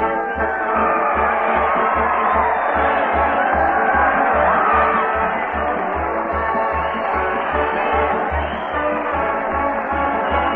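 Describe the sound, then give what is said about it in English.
A large crowd cheers and shouts loudly and continuously for Fred Allen as he leads a parade and band down the main street toward the old town hall, with a steady, rapid low thumping beat pulsing underneath the roar. “That crowd cheer Fred Allen as he heads the parade down the main street toward the old town hall.”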